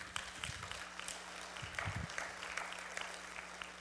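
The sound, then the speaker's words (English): A crowd breaks into steady applause, many hands clapping together in a dense, continuous patter that holds at an even, moderately loud level throughout. “Careful how you applaud about that.”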